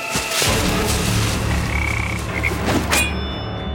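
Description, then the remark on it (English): A toad croaks loudly in alarm as it leaps toward a pond. It is a harsh, throaty, rasping call that runs continuously for a few seconds before cutting off abruptly, with no voices present. “The toad croaked in alarm and leapt toward the water, but not quickly enough.”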